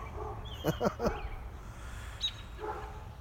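A big dog gives three quick barks in a rapid burst, followed by a brief bird chirp and a soft outdoor background hum on a chilly day.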